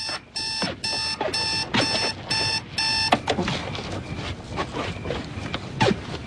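alarm clock ringing

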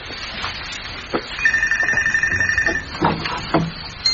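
telephone ringing

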